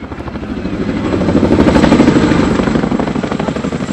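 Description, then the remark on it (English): Two heavy twin-rotor Chinook helicopters fly slowly over a crowd, their rhythmic rotor thumping swelling louder toward the middle and then easing slightly as they continue on, with no voices. “2 Chinook helicopters, the same type Major Stephen Reich was aboard, flew slowly over the crowd”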